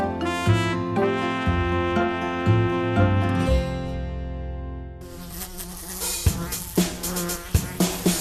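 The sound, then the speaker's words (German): A steady, droning fly buzz hums through a bright musical passage, growing denser halfway through as sharp percussive hits join in. No one speaks. “Wohnt ne freche Fliege und ich bin sauer, weil ich sie nicht kriege.”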